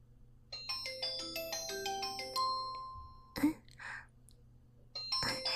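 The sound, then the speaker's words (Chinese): A phone rings with a bright electronic melody, a quick run of chiming notes lasting a couple of seconds, then brief muffled bumps and a short burst of tones near the end. “你先接电话吧。”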